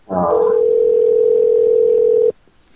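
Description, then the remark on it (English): A short buzzy burst gives way to a single steady, mid-pitched telephone tone that holds evenly for about two seconds, then cuts off abruptly into near silence, as a call is placed to a Taco Bell KFC. “I'm going to call the Taco Bell KFC.”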